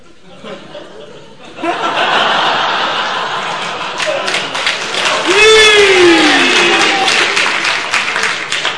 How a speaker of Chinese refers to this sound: 别鼓掌了